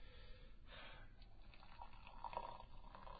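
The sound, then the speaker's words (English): Tea trickles slowly and steadily into a cup, a soft, continuous pour with faint gurgles toward the end and no voices. “Could you pour the tea any slower?”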